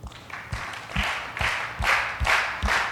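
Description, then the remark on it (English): A crowd claps in unison for a birthday song, about six steady rhythmic beats with a chattering spread of hand claps between, fairly loud, with no voices over it. “So we need to, there's a liturgy that goes along with this, so I need you to clap your hands.”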